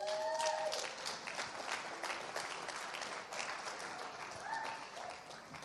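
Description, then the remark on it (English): A morning audience claps steadily for several seconds to welcome a speaker to the stage, a dense wash of hand claps holding at a fairly even level, with a few faint whistles or cheers rising above it. “Why don't you be generous in your applause this morning and please make welcome to the stage”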